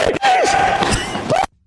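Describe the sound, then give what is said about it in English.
A loud, harsh human scream, heard during a chase by Nate Diaz's entourage, lasts about a second and a half, holding a high strained pitch that bends downward, swells again near the end, then cuts off abruptly into silence. “that scream, that screech, that yelp, yeah, let's hear it.”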